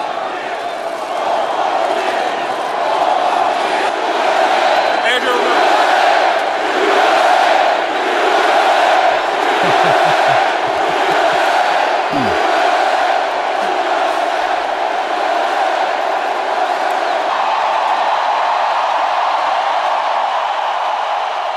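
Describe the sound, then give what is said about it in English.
A huge crowd in the Superdome roars and chants "four more years" as the president and the first lady walk onto the field, in a loud, sustained wall of voices, with rhythmic surges in the cheering running steadily for about twenty seconds. “Yeah, and what you heard was four more years.”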